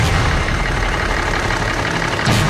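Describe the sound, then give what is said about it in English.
A truck engine idles steadily, a continuous low rumble layered with broad mechanical hiss, holding an even, fairly loud level throughout with a brief surge in the low end near the finish. “Well, I'm going to do the one thing I never want to do, and that's shut my truck off.”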